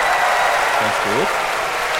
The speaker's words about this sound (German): Und als sie die Krone auf dem Kopf hatte, in dem Moment brach lauter Jubel im Volk aus. Das seid ja wie ihr, ne?